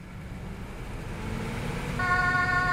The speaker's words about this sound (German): Es brennt in Frankfurt. Jetzt zählt jede Sekunde. Einsatzfahrzeuge der Feuerwache 1 rauschen aus dem Tor auf die Straße. Das Blaulicht-Navi leitet die Rettungskräfte über die schnellste Route.